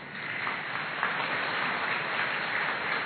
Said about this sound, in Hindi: हाँ बजाओ ताली।